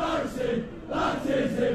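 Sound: soccer crowd chanting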